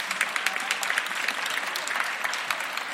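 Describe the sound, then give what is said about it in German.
An audience claps steadily as a speaker ends a talk on stage, a dense patter of many hands forming a continuous wash of applause at even loudness throughout, with no voices on top. “Das Klatschen hier vorne deutet mir an.”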